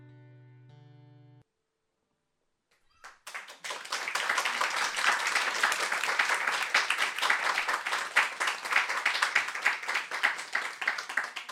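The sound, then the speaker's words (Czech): A brief tonal musical fade gives way to a moment of silence, then sustained applause from an audience breaks out after a live song at Radio Café Vinohradská 12, dense, steady clapping from many hands continuing to the end. “Naplněné ticho i potlesk, to všechno se dalo pozorovat v Radio Café Vinohradská 12, když nám tu živě zpívala”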